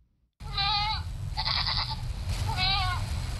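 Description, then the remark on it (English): Goats, among livestock being distributed to young people in villages along Cameroon's border with Nigeria, bleat three times in a row, each a wavering, nasal call about half a second long, loud over a steady rumble of outdoor background noise. “Authorities are distributing thousands of goats and sheep to young Cameroonians in villages along the border with Nigeria.”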